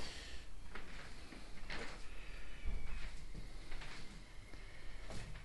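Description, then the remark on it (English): Several dull knocks on a wooden loudspeaker in a living room, spaced about a second apart, over a steady low background rumble with no talking. “I'm now in my living room, knocking at my loudspeaker.”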